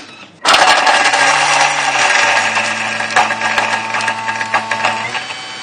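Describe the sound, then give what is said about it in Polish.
A blender switches on abruptly and runs continuously, a loud, steady motor whine with a gritty grinding texture as chickpeas are pureed, with no voices. “Wrzucamy wszystko do blendera. Ciecierzycę. No i teraz będzie chwila hałasu.”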